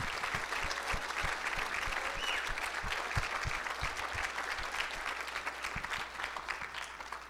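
A crowd claps steadily for about seven seconds, a dense, even patter of many hands at constant loudness with no voices standing out, as the audience applauds the writer and director of a Christmas presentation of The Good Shepherd.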